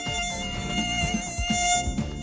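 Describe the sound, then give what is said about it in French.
A mosquito's thin, high-pitched whine drones steadily, wavering slightly in pitch as it hovers at bedtime, with no voices present. “Ah, l'insupportable zonzonnement du moustique qui vous rend fou toute la nuit, sans compter les piqûres.”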